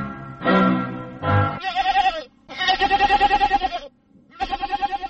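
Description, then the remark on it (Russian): A goat bleats loudly in several long, wavering calls, each with a rapid quavering pulse, separated by brief pauses, with no talking. “Появляется козел.”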